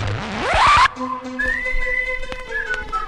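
A loud upward-sliding whistle, then a string of short steady whistled notes at varying pitches, clear with no talking.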